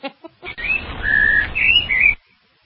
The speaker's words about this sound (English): So the weather tweets, you know, they even do... Can we hear that tweet again?